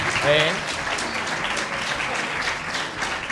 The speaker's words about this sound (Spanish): Porque, claro, hablar aquí delante de toda la clase pues da un poquito de vergüenza. Así que, por favor, vamos a darle un aplauso para que se le quite esa vergüenza.